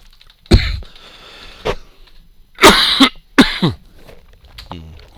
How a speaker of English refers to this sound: Sorry about the cough, but it's going to happen throughout this whole thing. Hey, I'm trying I'm to fight this cold.